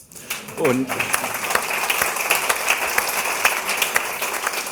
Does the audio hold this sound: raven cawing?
no